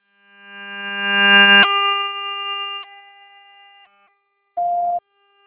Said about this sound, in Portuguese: Pode deixar sua mensagem que logo, logo eu vou ver. Por favor, deixe sua mensagem após o sinal.